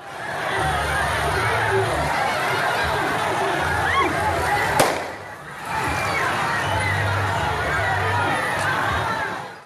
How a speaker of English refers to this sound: Let's listen to these protests. Deadly as well on this particular day. A woman killed, three people injured. Let's listen to it, and you'll hear a gunshot.